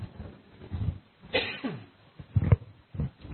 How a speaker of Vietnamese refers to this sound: Nói nhiều cho các vị sức khỏe, mình ho khụ khụ thế này thì chết toi.